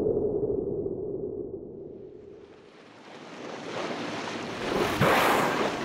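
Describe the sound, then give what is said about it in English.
Ocean waves wash against the shore in a steady roar on a cloudy day, fading briefly before a new wave surges and crashes loudly near the end. No one speaks. “An ocean and a whale.”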